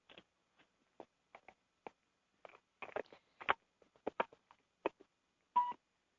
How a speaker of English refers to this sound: And if you could, and I apologize, but I'm going to put my other phone down because it's beeping.